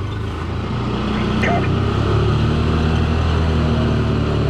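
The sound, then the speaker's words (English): A lifeguard's dune patrol car drives over beach sand at Fort DeSoto in Pinellas County, its engine a steady, loud low rumble with a droning hum that holds without pause for the whole few seconds. “A lifeguard drives up in a dune patrol car.”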